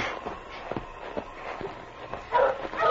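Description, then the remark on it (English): A dog named Spud gives a few short, sharp barks and yips toward the end, over a background of rustling, shuffling movement. “Your barking helped King find you.”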